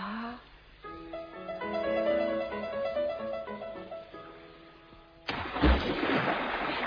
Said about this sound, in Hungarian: Ez mi volt? Ne törődj vele. Csak a víz ledöntötte az első gátat, és elfolyt.